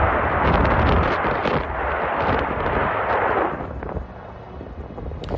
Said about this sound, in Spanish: Imagínate estar con tu familia, escuchar esas explosiones diarias, ver que cada vez la diana y el objetivo está más cerca.